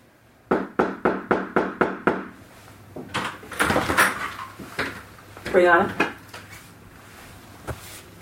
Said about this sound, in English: And this is the first time that you see the police coming and knocking on the door of apartment 4 at 3003 Springfield Drive.